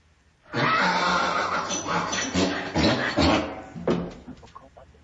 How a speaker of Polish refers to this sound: No, na początku brzmi jak koń, ale potem śmiesznie trochę. Jak myślicie, co to jest? Kto? Osioł? Tak, bardzo dobrze. To jest osioł, który nam tu rżał, jak to osioł tylko potrafi.